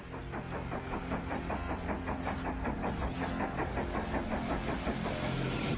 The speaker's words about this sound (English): Let's go. It's the Blackhawks Express. Choo choo